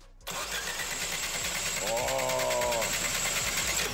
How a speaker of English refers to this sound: Yeah, at this point, the oil level is just crazy. There is way too much in there for the good of this engine. But let's give the engine a turn without starting it and see what happens.